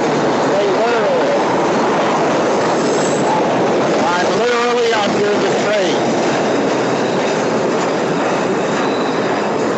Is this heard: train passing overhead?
yes